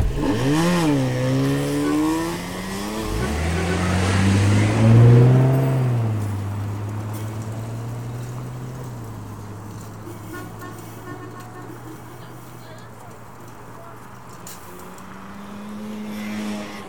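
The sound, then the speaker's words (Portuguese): A car engine revs up and pulls away, settling into a steady low drone that carries on for several seconds. A few wavering tonal sounds come just before it starts. “vamos, entra no carro.”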